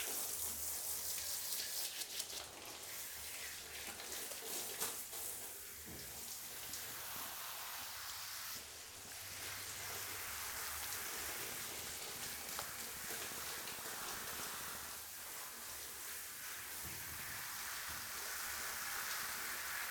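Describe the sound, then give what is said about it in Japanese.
A steady shower spray hisses continuously, water splashing and rinsing off soap lather without pause, with small shifts in the flow along the way. It is moderately quiet, and no one speaks. “シャワーでお流ししますにゃ。”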